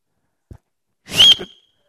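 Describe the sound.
A person gives one short, sharp whistle, the kind used to call someone over. It is a quick, fairly loud burst with a faint knock just before it and no talking.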